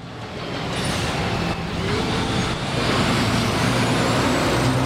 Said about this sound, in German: Die Boylston Street mitten in Boston. Noch rollt hier der Verkehr, doch die Aufbauarbeiten für den 127. Boston Marathon sind bereits in vollem Gange.